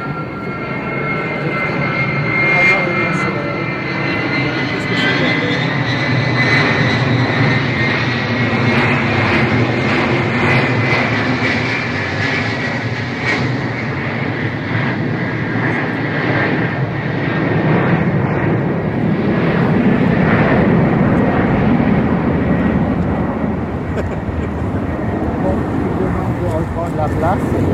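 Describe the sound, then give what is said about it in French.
An airplane drones overhead, a loud, steady engine roar with a whining tone that holds throughout, while faint voices murmur beneath it. “Il y a un autre avion par-dessus.”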